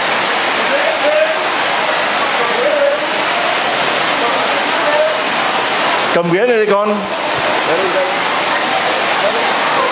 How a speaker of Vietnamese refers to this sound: Ra mời anh chị em vô trong nhà thờ ngồi, có mưa hết.